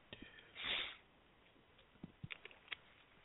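A soft slurping intake as someone sips a drink, followed by a few faint clicks and gulps of swallowing. Quiet and alone, with no talking.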